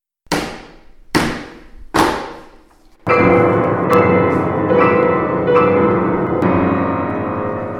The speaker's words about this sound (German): Beide klopften dreimal ans Portal.